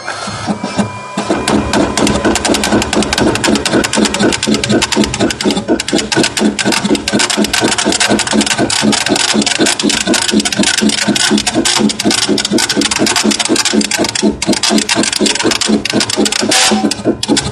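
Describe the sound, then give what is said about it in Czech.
A Braille embosser pulls in a sheet of paper, then starts printing with a loud, rapid, steady hammering clatter of mechanical strikes that continues without pause, with no voices. “Čili slyšeli jste takový ten typický zvuk, jak si podavač sám vezme papír a v podstatě okamžitě je zahájen tisk, který je poměrně velmi pravidelný.”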